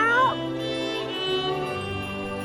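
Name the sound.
cat meowing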